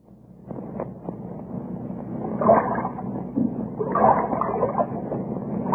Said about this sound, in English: That wind, where did it come from?